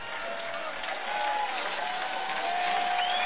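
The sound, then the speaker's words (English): A group of people, the Vikings, applauding their JV squad after a touchdown at a ballgame: a dense, steady wash of clapping with scattered shouts, holding at an even level for a few seconds. “And you hear the Vikings as they applaud that JV squad.”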